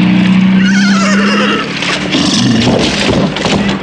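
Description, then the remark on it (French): A horse lets out a loud, quavering whinny, its trembling cry rising over a dense, noisy background with a low steady hum, then fading into scattered rustling and movement. “Si, bel cheval.”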